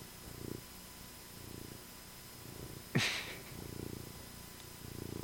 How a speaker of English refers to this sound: Pretty loud purr, too. A loud purr.